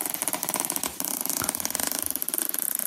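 A zipper is pulled in a long, steady stroke of rapid, raspy ticks, briefly easing off partway through before the dense clicking picks up again and runs to the end.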